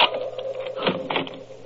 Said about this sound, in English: Just a minute, I'll unlock the door.